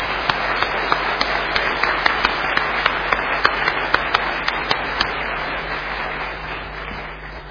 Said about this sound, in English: I think it would be worth just giving those young people a round of applause for the work that they've put in.